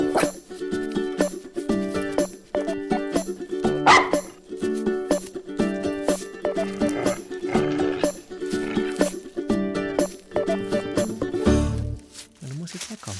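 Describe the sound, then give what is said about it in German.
A dog in a basket made of leaves whimpers and barks, a steady stream of short, high whines and yips repeating in quick bursts for the whole stretch before trailing off at the end. “Sagst du jetzt aus deinem Laubkörbchen raus, tschüss oder was?”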